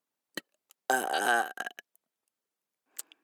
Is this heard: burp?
yes